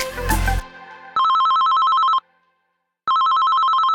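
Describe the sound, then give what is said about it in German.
A telephone rings with a call from a gynaecologist, in two loud, buzzing trills separated by a short silence, its tone steady and electronic, following a brief burst of noisy sound at the start. “Ein Anruf von der Gynäkologin und plötzlich ist alles anders.”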